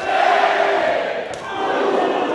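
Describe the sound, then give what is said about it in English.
A large crowd roars and shouts continuously at a wrestling bout, overlapping cries rising and falling as babyface and heel wrestlers trade blows, with a brief dip in the noise before it swells again. “and different cries as baby faces and heels trade blows.”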